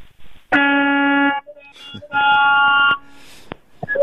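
A caller to a radio show honks his car horn twice in long, loud, steady blasts, each held for nearly a second with a flat, brassy buzz, separated by a short pause and some faint background noise.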